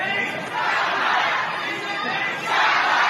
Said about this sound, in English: In another widely circulated video, a crowd in Shanghai on Saturday dared to shout this.